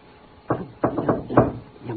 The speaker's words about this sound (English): A flashily dressed, slightly built man in the middle 30s walked toward a second floor door in an old but nicely kept apartment building. He set on the floor what looked like a brand new suitcase. Men knocked with a rhythm.